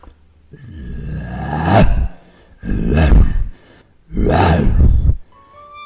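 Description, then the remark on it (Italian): In a stage performance of the Pyramus and Thisbe scene, a man's voice playing the Lion imitates a lion's roar as Thisbe flees, three loud, rasping bursts, each about a second and a half long with short pauses between, forceful. “Ben ruggito, leone, molto bravo.”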